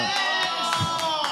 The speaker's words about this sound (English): Yes? You guys are cheering for that?